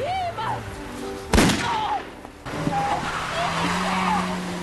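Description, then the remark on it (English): A single sharp gunshot cracks out, loud and sudden, over a low engine-like drone, with strained, rising voices before and after the blast, as Tsotsi in the film Tsotsi steals a car and shoots the woman who screams for him to stop. “This is one heartless kid, so it's no great surprise when a bit later he steals a car and shoots the woman who screams for him to stop.”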